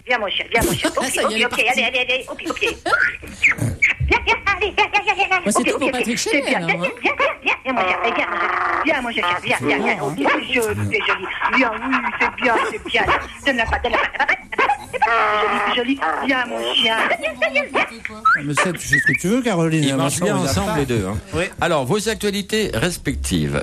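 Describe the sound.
High, wavering whimpers and short yelping barks like a small dog's repeat for most of the stretch, mixed with laughter and overlapping voices.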